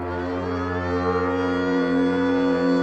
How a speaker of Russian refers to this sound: Мы закончили работу по гудку.